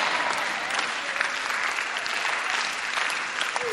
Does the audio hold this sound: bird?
no